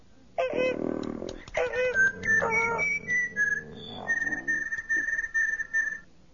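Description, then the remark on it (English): The droid R2 whistles and warbles in a quick run of electronic chirps and beeps, imitating Prime Minister Captison's recording, pitch sliding up and down across several fairly loud bursts with short gaps between them. “From behind her came a whistling echo.”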